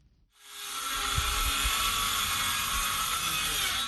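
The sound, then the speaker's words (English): A power drill starts up after a brief silence and roars steadily, its high whine sustained with low thumps and rattles underneath, no voices. Heard in the village of Guidemartin, Senegal, some 100 kilometers from Dakar. “The roar of power drills fills the air in the village of Guidemartin, a typically quiet community of 2,000 people located some 100 kilometers from the Senegalese capital of Dakar.”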